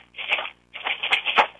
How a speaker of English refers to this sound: For the cat sound, I used a Gatorade that was a 20-ounce Gatorade, and I put some popcorn inside, you know, popcorn seeds that I haven't popped yet.